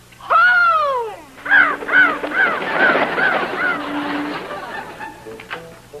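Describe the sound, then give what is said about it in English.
Crows caw loudly: one long drawn-out call, then a rapid run of six or seven harsh caws in steady rhythm, fading off with a few faint calls at the end. “Go on, crows. Fly slow now, but go home.”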